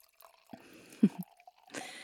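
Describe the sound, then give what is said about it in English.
Wine is poured into a glass: a few soft liquid plops and drips, then a brief splashing rush near the end. Quiet and short, with no talking. “Perhaps you could pour us some?”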